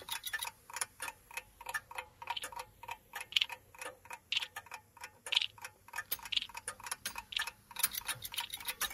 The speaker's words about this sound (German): Und das hört sich jetzt für jemanden, der Mono hört, wahrscheinlich genauso an. Nur wenn man es über Kopfhörer hört, merkt man, wie das Uhrwerk nach hinten links zum Beispiel wandert.